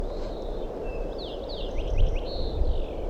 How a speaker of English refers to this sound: I think I hear crossbills coming from up the hill. Start calling wild crossbill here, perched right in the tree above me, on top of a ridge.